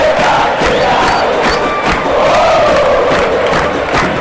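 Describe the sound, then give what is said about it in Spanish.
A packed stadium crowd roars in celebration of Tabaré Viudez's goal for Olimpia on his official debut, putting Olimpia 2-0 up. It is a loud, continuous wall of cheering and shouting that holds steady for several seconds with no clear speech. “Olimpia gana con este grito.”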